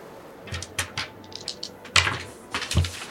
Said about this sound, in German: würfel mal auf Wahrnehmung.